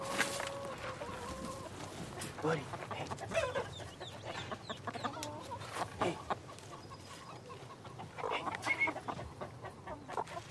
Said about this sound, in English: Outside, Otis cleans the chicken coop. A chicken slowly walks down a small wooden ramp.